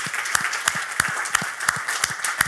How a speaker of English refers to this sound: And the biggest round of applause, please